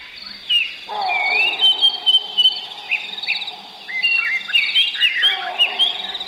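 A dense dawn chorus in Zimbabwe, Africa: many birds chirping and whistling at once, layered over a steady buzzing drone of insects, with an occasional monkey in the background and no talking.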